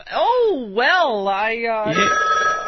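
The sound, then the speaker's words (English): A telephone rings with a warbling, sliding electronic tone that rises and falls in waves, then settles into a steadier, buzzier pitch near the end. It is loud and continuous throughout. “And you just dread the call.”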